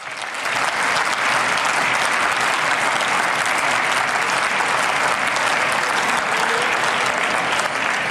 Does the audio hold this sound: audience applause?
yes